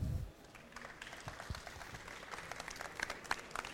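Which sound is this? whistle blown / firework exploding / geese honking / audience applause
audience applause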